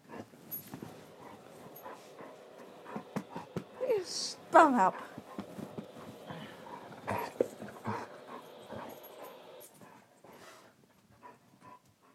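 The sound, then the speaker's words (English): A dog whimpers in short, high, wavering whines near the middle while a person talks over it. “You're a shitty doggy.”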